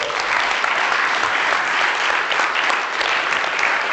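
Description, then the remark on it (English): A crowd applauds steadily throughout, a dense wash of many hands clapping at once with no break and no voices on top, loud and even from start to finish. “You clap, but I haven't told you what you're going to do now.”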